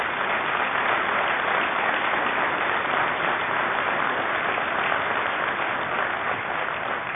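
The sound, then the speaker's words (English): Steady, sustained applause from an audience in New Orleans after a statement that $126 billion of U.S. taxpayer money helped the city after the storm, a dense wash of many hands clapping at an even, fairly loud level throughout, with no voices breaking through. “And I thank you for applauding on that statement, but I know you're applauding the American taxpayer.”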